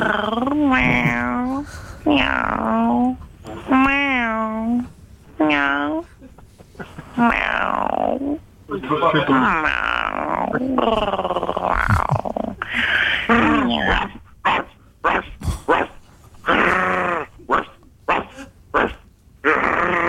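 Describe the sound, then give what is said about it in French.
A person vocally imitates a dog and a cat, with a run of wavering, bark-like and meowing cries, followed by more choppy vocal sounds that could be talking or further mimicry. “Alors, vous, à ce stade du jeu, vous votez plutôt pour le chien ou pour le chat? Le chat était mieux fait, en plus, c'était plus long.”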